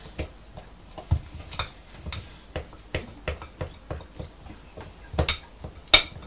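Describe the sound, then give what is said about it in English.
A fork taps and chops against a bowl in a series of sharp, irregular clinks, moderately loud, with no voices over the top. “It's a bit of a chopping, isn't it?”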